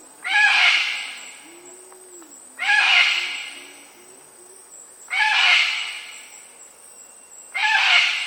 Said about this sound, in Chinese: 澳洲最普遍的是 Silver Crested Cockatoo 就是鹦鹉嘛。随后为什么叫 Silver Crested 呢？ Silver 就是硫磺，大家可以想象一下，就是是黄颜色的。随后呢 Crest 就是那个冠，所以说它那个冠呢是黄色的。